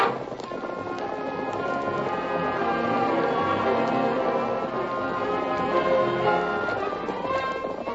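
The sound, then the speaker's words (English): Several horses ridden by men heading back to camp gallop at full speed, a rapid, continuous drumming of hooves that stays loud for the whole stretch, layered over a dense, busy background with no talking. “Back to camp, men. And don't spare the horses.”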